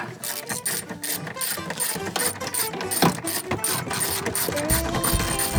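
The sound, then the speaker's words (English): Rapid, overlapping metallic clicking of ratchet wrenches removing six bolts that hold a car's hard top, a dense rattling texture with occasional sharper clanks, steady and fairly loud throughout with no one speaking. “See who's faster at removing the 6.”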